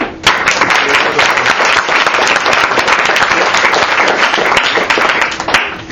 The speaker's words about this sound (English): So I'd like to raise a toast and a hand of applause, please, for Graham, my son, and Trevenor, his godfather.